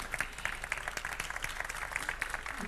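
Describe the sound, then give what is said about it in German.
Steady applause from an audience at the start of a talk in Osnabrück, a dense crackle of many hands clapping at once with no pauses, holding at a moderate level throughout without any voices over it. “Applaus am Anfang ist immer super, vor allem, wenn es nicht nur darum geht, was mache ich eigentlich in Osnabrück, weil viele wahrscheinlich denken, heißt doch eigentlich Code for Germany.”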